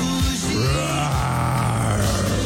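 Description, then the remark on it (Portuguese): A loud, rumbling roar of the Metro Goldwyn Mayer lion fills the moment, deep and gravelly with a wavering pitch, sustained for a couple of seconds with no talking over it. “O leão da Metro Goldwyn Mayer.”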